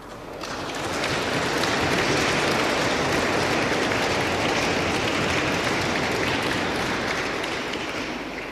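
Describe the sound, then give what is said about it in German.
An audience at a church worship service bursts into steady, sustained clapping that swells within the first second and holds at a dense, even level for several seconds, fading slightly at the end. No one speaks over it. “Ja, das Klatschen macht einiges deutlich.”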